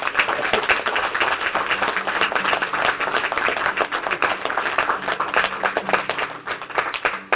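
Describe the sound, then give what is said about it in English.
A crowd applauds steadily as a hand clap of praise, many hands clapping in a dense, continuous patter that stays fairly loud and even throughout, with no voices standing out. “We just got a hand clap of praise.”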